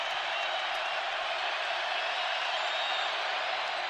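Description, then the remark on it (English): A steady, dense wash of arena crowd noise at a basketball game during a Utah free throw, with students hoping for a miss: a loud continuous roar of many voices blending together without distinct cheers or breaks throughout. “A make. Quiets the crowd, and more importantly, draws Utah within 13.”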